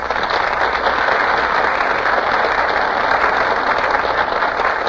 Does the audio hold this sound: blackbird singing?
no